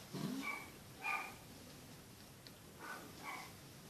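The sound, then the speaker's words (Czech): A dog barks four times in two loose pairs, the yelps sounding muffled over a steady background hiss, with no one talking. “Pes. Co? Pes říká.”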